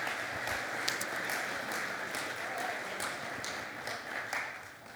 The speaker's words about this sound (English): Yeah, panelists, come on. Can we clap? It'll be less awkward. You don't know who you're clapping for.